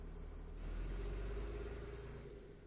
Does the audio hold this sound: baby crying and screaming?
no